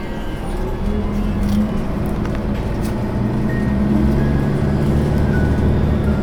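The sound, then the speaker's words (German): A steady engine rumble with a low droning hum, like riding inside a moving bus, holding an even loudness throughout with faint rattles and no clear talking. “Wir haben uns jetzt entschieden, ein bisschen den Bus zu wechseln.”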